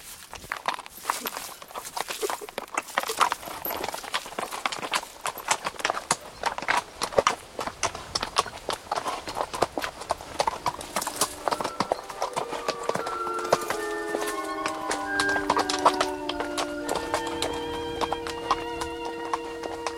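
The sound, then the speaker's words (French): Horse hooves clip-clop at a steady walking pace, fairly loud, as a horse carrying a young woman and a little girl crosses stony hills after leaving a wood, continuing for the whole stretch, with sustained tonal sounds joining in during the second half. “À la sortie du bois, Angelo installa la jeune femme et la petite fille sur le cheval et ils commencèrent à parcourir les collines pierreuses”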